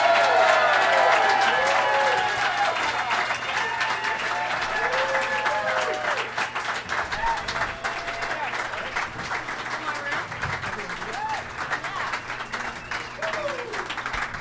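Loud, sustained applause with cheering and whoops from a live San Diego show audience welcoming guests Ngaio Bealum, Amy Miller and Graham Elwood. Dense clapping fills the whole stretch and tapers slightly toward the end.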